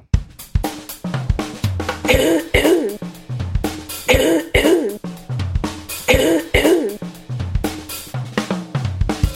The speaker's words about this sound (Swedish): Jag ska bara hosta.